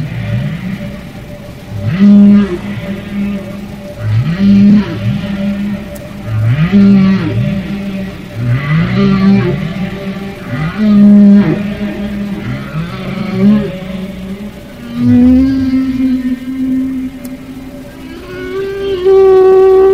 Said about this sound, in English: chasing each other like the humpback whales off Cabo San Lucas, and the big males are snorting away, you know, and following the female within inches of her, staying with her